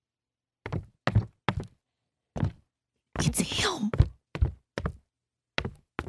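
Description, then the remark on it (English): Heavy, thudding footsteps of a man approach outside a door at an uneven walking pace, each step a dull muffled thump, while someone speaks briefly in a low voice partway through. “I know his footsteps by now.”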